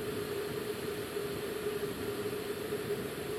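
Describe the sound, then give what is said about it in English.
A Jetboil camping gas stove burns while being turned up to heat water for coffee, a steady roar with a constant hiss and a low humming tone underneath, holding an even level throughout with no voices. “So we've got the jet ball working, turning up a bit, so it's coming quicker.”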